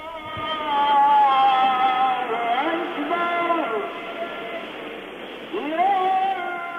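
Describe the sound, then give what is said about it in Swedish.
A call to prayer rings out from a minaret loudspeaker at one of Turkey's 66,674 mosques, a single male voice holding long, wavering melismatic notes with bright, slightly tinny amplification, rising and bending in pitch, then pausing briefly before resuming. “Högtalaren uppe i minareten kallar till bön i en av Turkiets 66 674 moskéer.”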